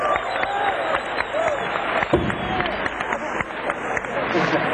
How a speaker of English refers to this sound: I want you to give him a big round of applause for … for running all day on the drums.